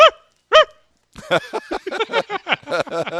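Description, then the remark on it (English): A 9-pound small dog gives two sharp, high-pitched barks, then after a brief pause breaks into a rapid, continuous run of yappy barking, fairly loud. “I got a 9-pound dog.”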